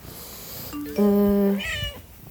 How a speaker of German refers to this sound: Und jetzt ist wieder alles gut. Und jetzt ist sie hier die schnurrigste Katze der Welt.